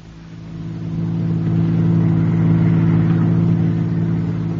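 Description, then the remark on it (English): A car engine hums steadily, growing louder over the first second and then holding a low, even drone as the vehicle pulls away. No voices are heard. “Now, let's get back into the car before they come out.”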